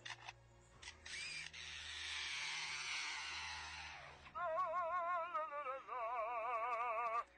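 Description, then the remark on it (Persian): An Australian lyrebird imitates mechanical sounds: sharp camera-shutter clicks and a steady buzzing chainsaw whir, then loud warbling, wavering whistles in repeated bursts. No one speaks. “یکی مثل همین پرنده استرالیایی باهوش که به این صورت تقلید صدا میکنه، صدای شاتل دوربین عکاسی، اره برقی، خواننده اپرا.”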